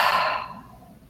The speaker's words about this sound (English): And one more nice deep breath like that. Breathing in through your nose, out through your mouth.